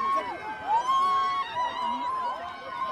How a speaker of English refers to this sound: People are standing up, running around here, shouting about this is a real chance for Chelsea. If they score, they've won. It's Drogba taking the final penalty. People have seen it's Drogba. People are on their feet here.